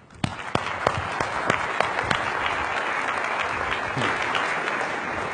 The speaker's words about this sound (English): Well, I'm not sure how much applause is deserved for that kind of flattering introduction. I'm sitting there crouching in my seat.